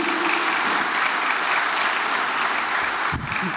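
Sustained applause from an audience, a dense, even wash of many hands clapping at a steady loudness throughout, with no voices standing out.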